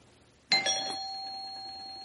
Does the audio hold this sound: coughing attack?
no